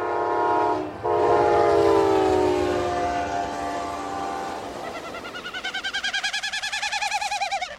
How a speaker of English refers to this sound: His rapidly beating wings force air through his widespread outer tail feathers, which are narrow and stiff.